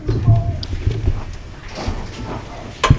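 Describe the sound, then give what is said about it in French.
A few dull, low thuds and faint scuffing, then a single loud, sharp bang near the end as a heavy school door slams shut. “La porte de l'école qui claque.”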